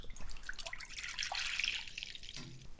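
Half a litre of fresh Carinthian milk pours steadily into a bowl for Hungarian pancake batter, a continuous liquid splashing and trickling that lasts a few seconds before ending with a soft clink.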